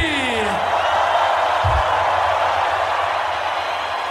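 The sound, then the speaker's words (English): A big festival crowd roars and cheers in a steady, loud wash of noise, with a falling whistle or whoop cutting through at the very start. “Make some noise for the Tomorrowland family!”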